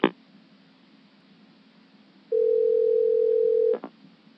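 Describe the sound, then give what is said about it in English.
After a call cuts out, a click, then a quiet line hiss before a steady telephone dial tone sounds for about a second and a half, cut off by a couple of sharp clicks. No voices. “cut out.”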